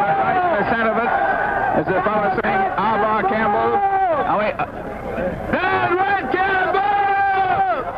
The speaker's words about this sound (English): They're on the streetcar tracks, but the police at the moment seem to have things well in hand. They jeer as the police try to push them back. The police are now forming a line and pushing the crowd back.